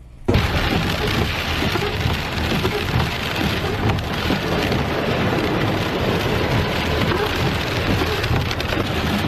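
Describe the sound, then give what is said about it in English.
Heavy rain from storm Fiona, downgraded to a post-tropical cyclone, pounds steadily on the roof and windows of a car driving through it in Nova Scotia while hurricane-type winds roar around it, a dense, loud, unbroken wash of storm noise with low rumbling underneath and no voices. “This is how Fiona, which has been downgraded to a post-tropical cyclone, sounded from inside a car driving through the storm.”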